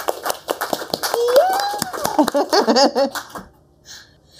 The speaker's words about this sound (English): Should we do a round of applause?